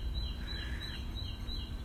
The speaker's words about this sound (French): Profitons du chant de ce petit oiseau.